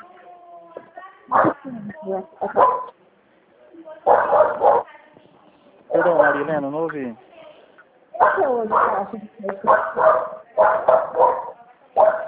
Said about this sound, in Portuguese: Tá muito baixa a ligação. Acho que o cachorro está latindo, né? Não sei.